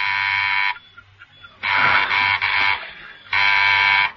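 An electric buzzer doorbell rings in a coded pattern at the door of Fitch's clock workshop: a short buzz, a longer buzz broken by a brief dip, then another short buzz, loud with no one speaking.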